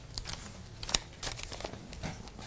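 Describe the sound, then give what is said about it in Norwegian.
Crisp rustling and crinkling of paper pages being turned forward to chapter 7, a few quick swishes with one sharper snap near the middle, and no talking. “Da blar vi videre utover, og vi skal da gå over i kapittel 7”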